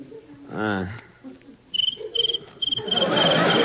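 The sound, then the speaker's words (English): A cricket chirps in quick, rhythmic bursts of high trilling, clear, following a brief vocal sound, with a rising rustling wash near the end. “I'll fix that cricket.”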